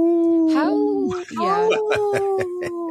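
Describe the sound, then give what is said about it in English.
A person's voice imitates a wolf howl to say no to wolf hunts in Minnesota, a sustained wavering tone that rises and falls, followed by short yipping breaths, loud with no other sounds. “So I speak wolf. When I say no, I go,”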